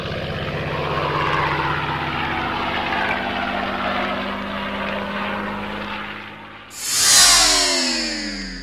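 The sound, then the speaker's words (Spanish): World War II propeller aircraft fly over the city in a sustained, loud drone with steady engine hum, then a louder plane sweeps past near the end, its pitch sliding downward as it passes. “Por otro lado, en la ciudad hubo un sobrevuelo de aviones de la Segunda Guerra Mundial.”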